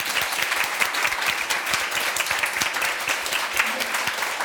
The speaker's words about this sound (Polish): Poprosimy na scenę Tomasz Stawiszyński. Wielkie brawa!